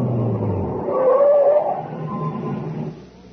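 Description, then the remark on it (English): A heavy truck's engine rumbles low, a brief brake squeal rising midway as it slows, then the motor noise eases off as it comes to a halt by a reactor equipment building. “No, stop here, by the reactor equipment building. What for? Just stop the truck.”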